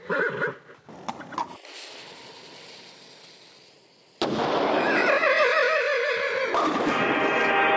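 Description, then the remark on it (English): A few short whinnies and a steady hissing lead up to a sudden loud cannon blast as a horse, Ernest the Equestrian Cannonball, lights the fuse of its cannon and climbs inside during a cannonball bowling contest, followed by a long, wavering horse whinny over sustained rumbling noise. “The horse aims its cannon, lights its fuse, and climbs inside.”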